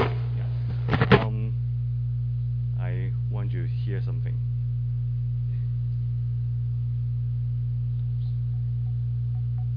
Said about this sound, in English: Also use this bell sound to remind us the presence of God in our daily life. Yeah, so this is a time for rest and time for you also sense God's presence in your life.